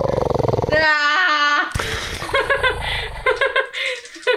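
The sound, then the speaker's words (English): During a dice-rolling game, a person vocally imitates a dragon puffing up big and launching a hail of ice: a strained, warbling growl, then an abrupt hissing rush that breaks into choppy, breathy bursts like laughter. “As you've degrappled yourself from Lay Dragon, you watch as the dragon like puffs up real big and then launches just a hail of ice towards you. That was a sound.”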